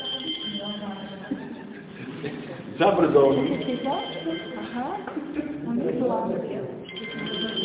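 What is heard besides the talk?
phone ringing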